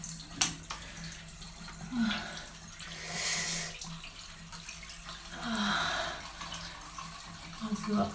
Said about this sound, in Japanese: シャワーを当てつつ指でクリトリスいじっていきます。